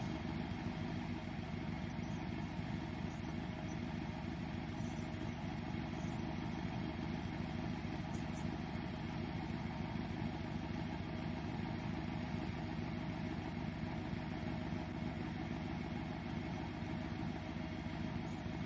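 A car engine idles steadily and unbroken for the whole stretch, a constant low rumble with a faint rattling texture, with no voices over it.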